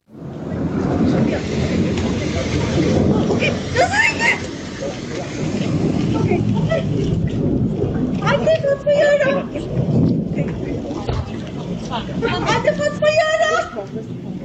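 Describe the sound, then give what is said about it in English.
In a video, a woman who is grabbed by a man in a face mask as she leaves her apartment and is then surrounded by plain-clothes ICE officers lets out a few sharp, high-pitched cries over a constant rumbling roar of street noise, with a short yelp first and then two longer, strained screams toward the end. “We hear her yelling out, and then we see some other people in plain clothes who we later learn are ICE officers.”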